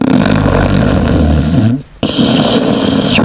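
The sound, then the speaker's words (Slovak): A loud snoring sound effect, played to represent Empress Maria Theresa snoring: a long, rough rattling snore, a brief pause, then another raspy snore starting up. No one speaks. “Rozmýšľali sme, aký zvuk dať, tak ja viem, že o nej, že chrápala.”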